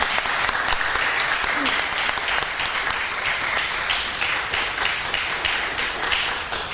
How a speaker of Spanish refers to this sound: Enhorabuena, un aplauso para él.